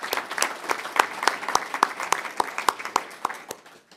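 A small group applauds to thank a departing party member, with a few sharp, regular claps standing out above a dense patter of hand claps that thins and fades toward the end.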